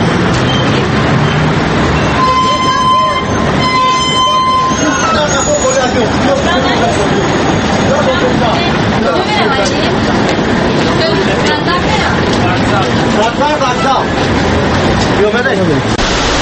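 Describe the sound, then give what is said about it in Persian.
A loud, steady engine rumble and rattle fill the interior of a moving city bus, with a murmur of passengers talking throughout and a brief high whining tone early on. “ما طور میبینیم در همین داخل همین اتوبوس تقریبا در دست یکون نفر کتاب نیست.”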